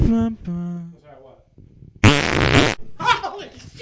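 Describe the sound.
A loud, raspy fart blasts out in one long sputtering burst, preceded by short tonal vocal sounds and followed by rougher, fading noise and voices.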